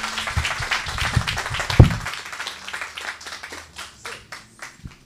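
A burst of audience applause, dense and loud at first, then thinning into scattered individual claps as it fades out over a few seconds.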